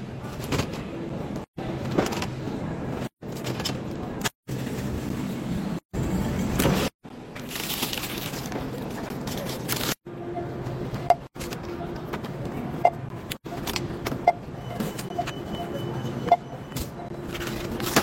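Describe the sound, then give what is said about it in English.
Rustling and shuffling movement with a low rumble, followed by a few sharp clicks and knocks as someone gets into a car and handles its fittings, with no one speaking. “Hopping in the car now to go give him his drinks.”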